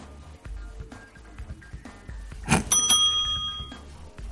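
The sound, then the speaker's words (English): A bright, bell-like correct-answer chime strikes once and rings out with shimmering high tones that fade over about two seconds, heard clearly above a quiet background hum. “So bear with me if there's a little bit delay before you hear the right or wrong answer chime.”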